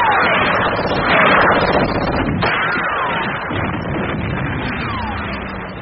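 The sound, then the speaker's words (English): Gunfire in a dense, roaring battle din, with a few sharp cracks standing out and falling whistling tones sweeping over a constant loud rumble. “Gunfire! The wall!”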